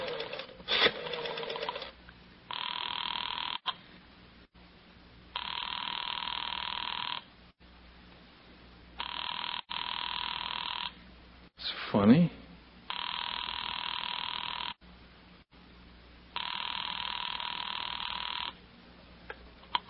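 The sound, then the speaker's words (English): A telephone rings repeatedly in steady bursts of about two seconds each with pauses between, heard through the line as a caller waits, with a brief rustle partway through. “I want to get Jessie on the phone.”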